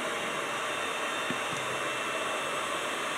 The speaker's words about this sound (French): Alors là, donc, nous avons battu et nous mélangeons donc le chocolat avec notre mixeur.